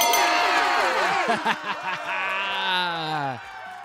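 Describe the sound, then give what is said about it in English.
A celebratory victory sound effect played for winning the Fast Five game: bright, warbling electronic tones with quick bouncy notes, then a long gliding tone that slides downward and cuts off, with faint cheer-like noise underneath. “Please play the Winnie Win sound.”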